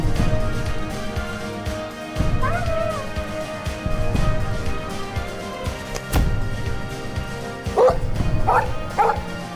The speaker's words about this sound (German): Hast du das gehört? Das Bellen?